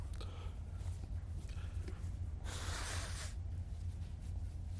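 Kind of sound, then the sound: human body sound, person blowing their nose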